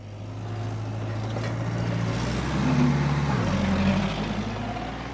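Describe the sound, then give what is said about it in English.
At nearly 8 p.m., in the dark, Jeff Anderson's big rig truck carrying millions of bees backs slowly into an almond orchard, its diesel engine a steady low rumble with humming tones that shift briefly in the middle, continuous and fairly loud, with no voices. “It's nearly 8 p.m., and Jeff Anderson is slowly backing his big rig into an almond orchard.”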